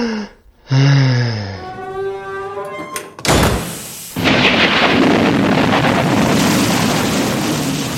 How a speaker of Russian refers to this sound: Однажды вечером разыгралась непогода. Молния так и сверкала, гром гремел, а дождь лил как из ведра.